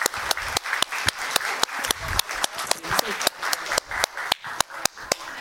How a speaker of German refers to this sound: Und ja, wir geben noch einmal einen richtig großen Applaus für die tolle Gruppe und ihr tolles Produkt.